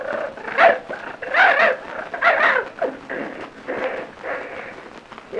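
A dog named Princey growls and snorts at a whitewash brush in a string of rough bursts, several loud surges followed by quieter rumbling snuffles, with no clear talk over it.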